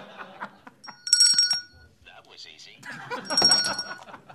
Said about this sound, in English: Ring your bell. Immediate. Listen to this.